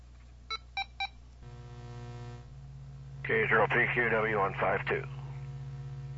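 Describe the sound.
Three quick, evenly spaced electronic keypad beeps from a radio, followed by a steady low hum and a short burst of voice coming through the radio's speaker.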